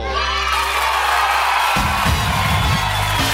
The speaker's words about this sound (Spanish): ¡Aplauso!